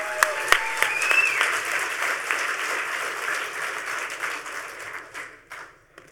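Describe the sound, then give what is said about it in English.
A large audience applauds steadily for about five seconds as a speaker is introduced for a talk on building and breaking the next Hope badge, with a whoop or whistle rising early on, before the clapping thins out and fades to quiet. “Huge round of applause this time.”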